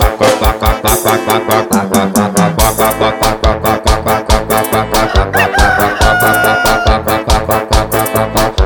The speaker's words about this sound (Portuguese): mais essa zoada, o galo desregulado cantando. Vai! É desse jeito, é luta. Não tem que aguentar. E o certo mesmo do galo cantar é de 6 horas da manhã pra frente, né?